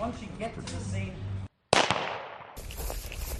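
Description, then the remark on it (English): A bullet whizzes just past in a safety training exercise: one loud, sharp crack breaking a moment of silence, then trailing off in a hissing decay. Voices are heard talking before it, and noise continues afterward. “So the first sound is the bullet just missing you.”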